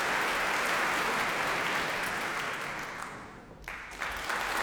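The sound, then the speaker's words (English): A concert audience applauds steadily for the arrival of the Bournemouth Symphony Orchestra's leader, Charles Mutter, a dense, even patter of many hands clapping at a fairly loud level, thinning briefly near the end before picking up again, with no voices over it. “And that applause is for the arrival of the Bournemouth Symphony Orchestra's leader, Charles Mutter.”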